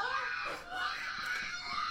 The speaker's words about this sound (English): Oh, Megan the one-eyed screaming pug is great.